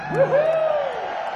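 A concert crowd roars and cheers, with a loud rising whoop cutting through the steady wash of noise for a moment before fading back into the crowd.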